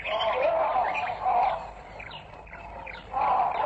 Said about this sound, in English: That monkey's on guard. Which is he? Samanga monkey.